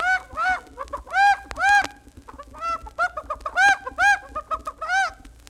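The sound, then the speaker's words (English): A hen squawks loudly and agitatedly, letting out a rapid series of harsh, clucking cries in uneven bursts, with no voices, as it is snatched up and carried off from a giant's castle. “Quiet, Mistress Hen.”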